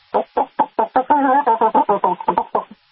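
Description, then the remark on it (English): A backyard chicken gives a quick run of about a dozen clucks, fairly loud, in a rapid, excited rhythm, with one longer, drawn-out cluck near the start. It is a food call that chickens make when they find a grub to share with other chickens. “That's what chickens do when they find a nice, fat, tasty grub and they want to share it with their fellow chickens, especially their babies”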